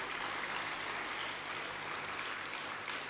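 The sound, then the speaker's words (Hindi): A crowd applauds the Madhurvani group's performance, dense overlapping clapping that holds at an even, fairly loud level throughout with no voices on top. “जितनी सुंदर प्रस्तुति, हमारी तालियां भी उतनी जोरदार हो तो अच्छा है।”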